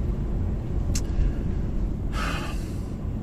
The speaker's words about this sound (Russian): ох ты, мама родная, я еще в пробку тут попал, ладно.